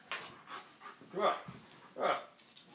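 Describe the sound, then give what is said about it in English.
A male dog pants in quick, rhythmic breathy bursts, a few of them louder and slightly voiced, with short gaps between, while being tickled on its tummy and falling over backwards. “Silly dog. He's falling over backwards.”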